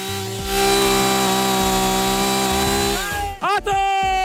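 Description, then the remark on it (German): A chainsaw runs loud and steady as a tree is felled, its engine droning with a buzzing rattle, then revs and dips briefly near the end as the cut finishes. “Am besten, du lässt das Mikrofon bleiben und nimmst dir eine Säge in die Hand, ja, und machst dann mal die nächste 10 Bäume auch noch um.”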